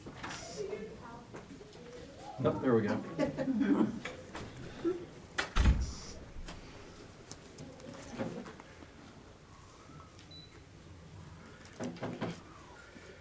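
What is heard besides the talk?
door being opened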